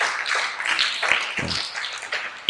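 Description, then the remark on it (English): A church audience claps in honour of the late Bishop Oko Boteduku, a dense, continuous patter of hand claps, fairly loud and steady throughout, with a few sharper individual claps standing out near the end. “Clap for Bishop Oko Boteduku. Yeah. Clap for him.”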